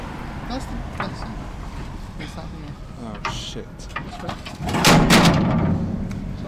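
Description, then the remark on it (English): An undercover police car slows to a stop and reverses, its engine rumbling and swelling louder for a moment before easing off, with faint voices murmuring in the background. “Why is there a car stopping and reversing?”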